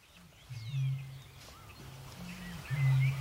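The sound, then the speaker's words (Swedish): A Eurasian bittern booms from the reed beds of a lowland lake late in the evening: deep, hollow, foghorn-like low notes in a short series, swelling louder toward the end, while faint higher bird calls twitter in the background. “Kvällen börjar bli sen här och jag höll på att säga att endast rördrommen är vaken.”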